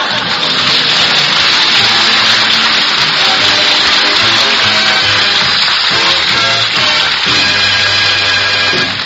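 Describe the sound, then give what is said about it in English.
Hot water gushes steadily from a tap, a loud, continuous rushing hiss that lasts throughout, with faint humming tones underneath. “Would you turn on the hot water”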